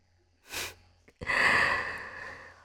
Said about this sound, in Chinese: 喘息的这么厉害，那就先暂停吧。